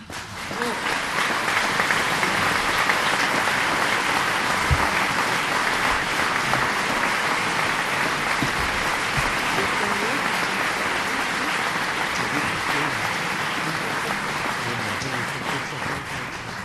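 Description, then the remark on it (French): Sustained audience applause at the Fabrica for the festival team, a dense wash of many hands clapping at a steady, loud level for about sixteen seconds without a break, with no voices standing out above it. “Et alors que nous allons dévoiler ensemble le festival que cette équipe a rêvé et construit pour vous, le public, j'aimerais bien commencer par demander au public présent ici à la Fabrica de les applaudir.”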